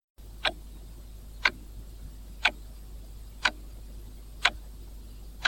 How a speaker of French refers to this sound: J'entends une horloge.